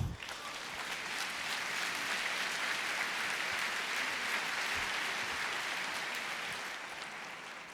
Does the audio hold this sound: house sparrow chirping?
no